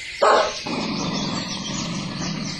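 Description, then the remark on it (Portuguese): A single short, loud bark from a purebred dog near the start, followed by a steady hiss of background noise for the rest of the moment, with no voices. “Eu sou um cão de raça.”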